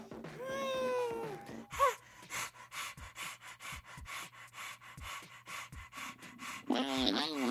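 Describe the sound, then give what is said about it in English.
Rapid, rhythmic panting breaths blown right into the microphone, a steady run of quick close puffs lasting several seconds, with short voiced, whiny sounds just before and after. “You're breathing on the microphone.”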